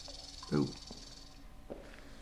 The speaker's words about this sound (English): You probably also heard a snake earlier. You just want to dodge those.